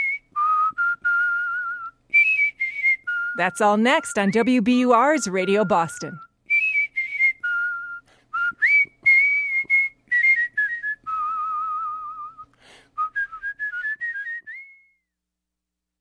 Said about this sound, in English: Last, world champion whistling.